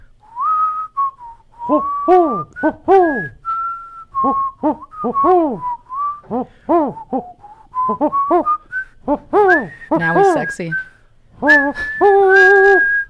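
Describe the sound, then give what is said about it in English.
A person whistles an imitation of a bluebird call: a long run of bright, warbling notes that rise and fall in pitch, loud and continuous, with a few words spoken briefly. “Quick, you know, do a bluebird whistle.”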